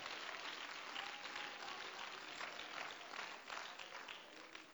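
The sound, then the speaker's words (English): An audience claps hands steadily throughout to give praise to the Lord, a dense, continuous wash of many people applauding at once, fairly loud with no voices standing out. “Come on, let's clap our hands and give praise to the Lord.”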